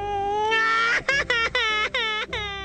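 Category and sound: human body sound, child crying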